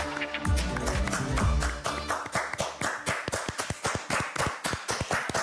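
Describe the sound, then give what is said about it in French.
Steady, rhythmic hand clapping from what sounds like one or a few people, sharp and fairly loud, beginning over a brief stretch of musical tones that quickly fade out. The applause is given during lockdown for a great figure of French song. “Applaudissements confinés pour un grand monsieur de la chanson française,”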